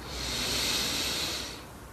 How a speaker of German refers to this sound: Mit jedem Atemzug kannst du dir erlauben, Frische und Entspannung in dir zu spüren. Wir nehmen den ersten tiefen Atemzug und atmen ein.